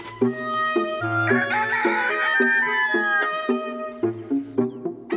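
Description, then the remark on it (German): Chickens cluck in short, repeated bursts on a chicken yard while a rooster lets out a long, strained crow in the middle, the yard busy and fairly loud throughout. “Ich muss raus, raus in die Welt, also auf den Hühnerhof.”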